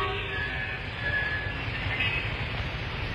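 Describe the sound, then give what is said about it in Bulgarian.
A Berlin city railway train thunders by after dark, a loud, continuous low rumble with a broad rushing roar over it, holding steady for the whole stretch with no voices. “Градската железница прогърмява.”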